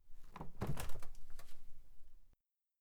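A refrigerator door pulled open by someone looking for a drink on the lower shelf, with a soft thunk followed by a couple of sharper clicks and rattling bumps over about two seconds, then silence. No one speaks.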